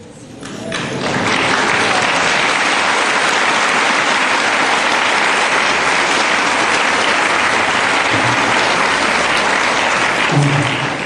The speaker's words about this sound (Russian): И аплодисменты на самом деле адресованы всем тем, кто делает это. Тем, кто, несмотря на погоду, несмотря на состояние своего здоровья, несмотря на какие-то другие свои проблемы, берет книги Шрилы Прабхупады и дает их другим.